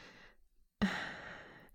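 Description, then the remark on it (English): Heavy breathing: a softer breath, a brief pause, then a loud, drawn-out airy exhale, with no talking. “Your breathing is speeding up quite a bit.”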